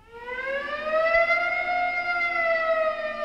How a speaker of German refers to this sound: Es gab natürlich andere Geräusche, die dazu kamen, also im 19. Jahrhundert, die Sirenen der Fabriken, die signalisierten einfach, wann ist Schichtwechsel, nichts anderes als ein quasi automatisiertes Horn, so eine Sirene.